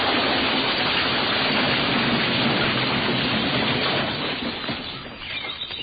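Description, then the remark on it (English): A bag of groceries is poured out all over the ground in one long, loud rush of clattering and tumbling that thins out over the last couple of seconds. No one speaks. “Why don't we pour the contents all over the ground?”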